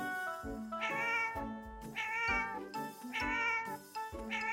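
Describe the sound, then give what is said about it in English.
A cat meows repeatedly in a steady rhythm, about four drawn-out, insistent cries, loud and clear with no talking. “Cat. Cat. Can you see the cat?”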